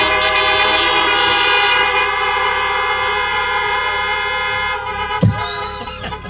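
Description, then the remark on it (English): A chorus of car horns blares together in one long, loud, overlapping honk, held steadily for several seconds before thinning out near the end, honked in answer to a call to honk if you love Jesus. No one speaks. “I guess I should say, honk if you love Jesus.”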